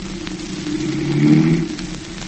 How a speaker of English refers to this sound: Gee, Dad, the old bus is running pretty good, isn't it? It sure is. Well, it ought to after that overhaul,